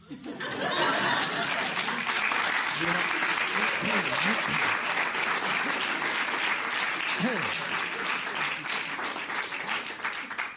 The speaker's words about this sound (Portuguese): Estão a aplaudir uma troca de correspondência.